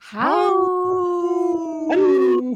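A dog howls in one long, sustained, wavering note that rises at the start and swells again near the end, loud, with no talking over it.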